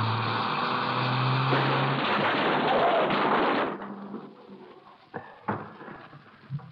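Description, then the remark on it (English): A loud car crash as a car is deliberately driven into another car to stop it: a roaring, grinding rush of noise with a low engine drone lasts several seconds, then fades into scattered sharp clanks and rattles of settling debris. “I'm going to stop him. I'll stop him. What are you doing? Hang on. We're going to hit.”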